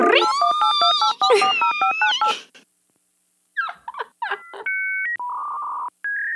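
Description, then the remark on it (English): A voice shrieks and warbles in imitation of a dial-up internet modem, then after a pause come quick electronic dialing chirps and steady high beeping tones of a dial-up modem starting its connection over a phone line. “can you please insert the dial-up sound?”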